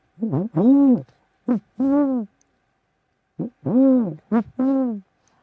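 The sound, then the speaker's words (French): A person's voice imitates an owl hooting, clear, in two matching phrases of four hoots each, alternating short and drawn-out calls, with a brief pause between the phrases. “Le hibou.”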